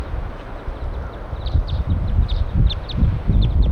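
Wild birds give a series of short, high chirps in quick, irregular bursts over a steady background rumble, with soft low thumps and rustling underneath. No one speaks.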